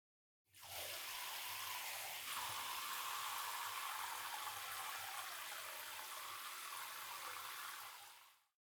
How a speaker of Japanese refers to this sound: まず、軽くお湯で泡を流しますね。